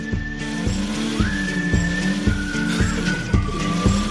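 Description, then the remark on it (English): A car engine revs loudly, its pitch surging and dropping in a steady series of repeated pulses, with a high whine riding above the rumble and no talking. “You're just revving the engine.”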